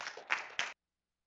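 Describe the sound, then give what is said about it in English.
A short burst of applause from a small group at a church gathering, many hands clapping together for under a second before it cuts off abruptly into silence. “Give a little round of applause.”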